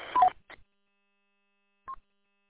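A short Roger beep on an amateur radio transmission: a crackly burst carrying a quick two-note electronic chirp, a faint click, then after a pause of silence one more brief mid-pitched beep. No one speaks.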